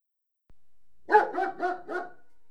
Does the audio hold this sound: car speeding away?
no